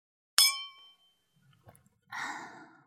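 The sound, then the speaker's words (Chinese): Wine cups clink together once as Princess Iron Fan and her sisters toast in a drinking contest: a sharp, bright ring that lingers and fades over about half a second, followed by faint small knocks and a soft breathy sound. “今天呢，我铁扇公主就来跟姐妹们比比酒量，干杯！”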